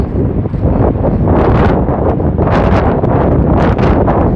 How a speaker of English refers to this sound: Probably windy as hell. Wind blowing right in my face. Let me see if I turn around. With you. See if I turn around, you probably don't hear nothing. See? If I turn around like that, you probably not getting as much.